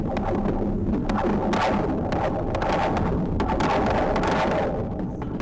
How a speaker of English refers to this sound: It features the hidden sound of a bridge.